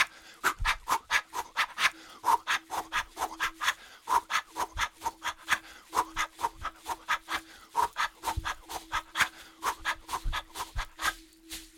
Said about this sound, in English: As you're moving, as you're breathing, you're lifting your heels up. You can hear the sound of my rattles. My rattles are getting louder